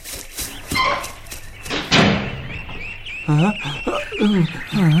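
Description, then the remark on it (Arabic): A single sharp slam of a cage door shutting, loud and abrupt, followed by voices chattering and calling out in high, animated tones. “الأفضل أن ندخل القفص ونغلق الباب كي لا يصل إلينا الأسد. إذن هيا ادخل القفص وأغلق الباب.”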